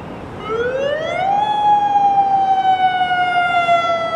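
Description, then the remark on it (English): A tsunami warning siren wails loudly in Tofino, its tone sweeping upward over the first second and a half, then holding a long, steady, slowly sagging pitch over a faint background rumble. “That's when the tsunami warning sirens begin to wail in Tofino.”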